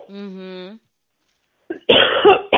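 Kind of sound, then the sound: human body sound, cough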